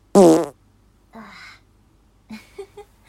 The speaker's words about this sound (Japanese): 今お仕事が終わりました。疲れたので布団でゆっくりしてます。おなら出そうなので出します。はい。